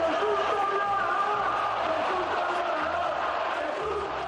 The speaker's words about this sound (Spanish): volvieron a escucharse gritos contra Cristiano en el Metropolitano